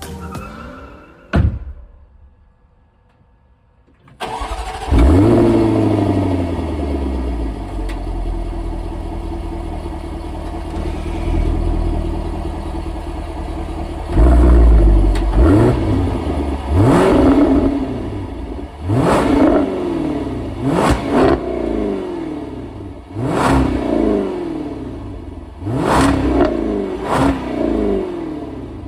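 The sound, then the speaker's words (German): A car engine barks to life and idles with a deep, rumbling tone, then a series of sharp, aggressive V8 revs rise and fall in quick bursts, loud. “V8 und ziemlich aggressiv und wir waren beide ein bisschen erstaunt, ehrlich gesagt.”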